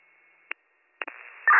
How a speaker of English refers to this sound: 60, all I copy to your last is still have live wires. The rest is static.